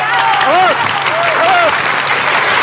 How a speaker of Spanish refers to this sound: En estos momentos se disponen a subir al kiosco para tomar sus lugares. ¡El aplauso bonito para ellos!